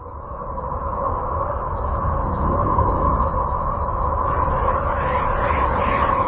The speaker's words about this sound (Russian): Звуки холодного Урана напоминают арктический буран.